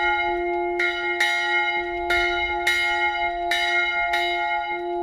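Church bells ring out in a steady, overlapping sequence, several loud strikes with long sustained hum between them, bright and clear with no voices.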